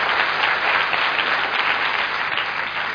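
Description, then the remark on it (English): Sustained applause from an audience, given as a clap offering to Jesus after a prayer, fills the space, a dense wash of many hands clapping steadily and loudly for a few seconds, with no voices standing out. “Give Jesus a clap offering and God bless you.”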